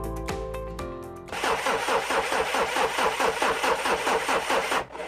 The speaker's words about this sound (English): Oh no, the car won't start again.